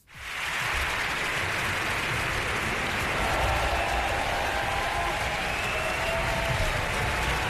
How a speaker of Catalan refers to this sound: Ovació de no sé quants minuts que va durar perquè la compositora barcelonina Raquel García Tomás s'ha convertit en la segona dona en els 176 anys d'història del Liceu, per ser la primera catalana, sí. En estrenar òpera.